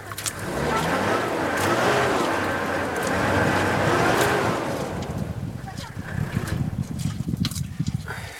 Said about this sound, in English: This is … of getting stuck in the mud in Chad on the way to Gaga camp. By the time I started recording this, we'd been stuck in the mud for 2.5 hours.